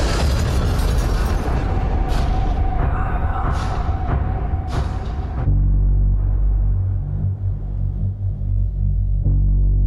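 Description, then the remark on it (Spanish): Several sharp gunshots crack out at irregular intervals from inside a school, over a dense, chaotic wash of noise, then give way to a heavy, continuous low rumble with no voices. “Inmediatamente después de los primeros gritos sonaron los disparos.”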